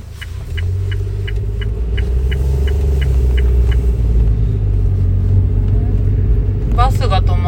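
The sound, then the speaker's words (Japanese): A bus rumbles past with a heavy, steady engine drone, while a rapid series of short, regular beeps ticks over it at first; a brief voice chimes in near the end. “小学生どっか行くのかな、ね、バス。”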